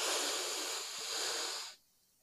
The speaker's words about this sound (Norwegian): Ok, er du klar for å puste litt og tømme hodet ditt for tanker? Ok, da kan vi starte med å puste godt inn.